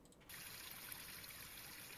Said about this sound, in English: That's the Roaring Fork River. What is usually a consistent flow has slowed to a trickle this summer. The river lays sluggish in shallow beds like tide pools.